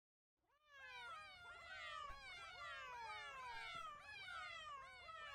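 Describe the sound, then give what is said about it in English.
A cat click sound effect played when people click an online board, set at level 70: a loud, dense chorus of cat meows, many overlapping high wavering calls rising and falling continuously for about five seconds, with no talking. “This one is a cat click effect. I'm going to play it so you'll hear it and see it.”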